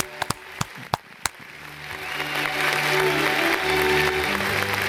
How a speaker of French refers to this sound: Mérite des applaudissements, tout ça. On applaudit. On applaudit. Merci, bravo, merci beaucoup.